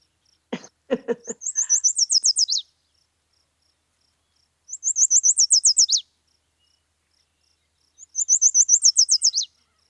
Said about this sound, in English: the yellow warbler, which you just heard